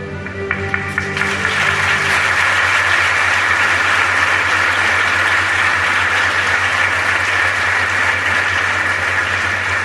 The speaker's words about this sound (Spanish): Les voy a pedir que guarden unos cuantos de aplausos porque nos acaba de llegar el vídeo que nos faltaba y que es este.